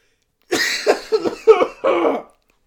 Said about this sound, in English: That cough was part of the insult.